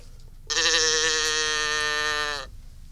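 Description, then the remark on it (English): A toy noisemaker gives a single loud moo, a steady, buzzy, reedy tone lasting about two seconds before cutting off abruptly. No one speaks. “Here's the cow. We also have a cow.”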